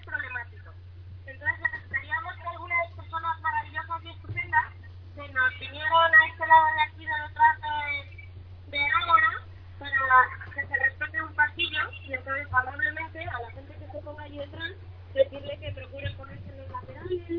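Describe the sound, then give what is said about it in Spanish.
A murmuring outdoor crowd in the Plaza de Oriente in Madrid, heard through a mobile phone line with telephone quality, many overlapping voices blending together over a steady low electrical hum, continuous for the whole stretch. “Estamos escuchando el sonido ambiente de la Plaza de Oriente en Madrid.”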